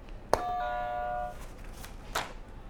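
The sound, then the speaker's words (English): A buzzer sound effect: one sharp, bright tone with ringing overtones that holds for about a second and then cuts off, followed by a brief knock. No one speaks. “Hit another buzzer for me.”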